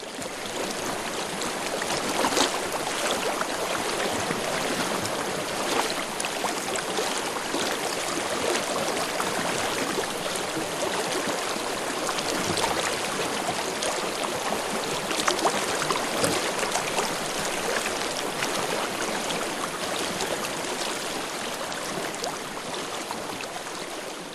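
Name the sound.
river water flowing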